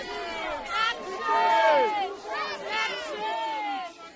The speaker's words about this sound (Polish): Cały czas krzyczycie na krzyż zdrajca, ukrzyżować go.